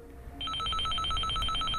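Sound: telephone ringing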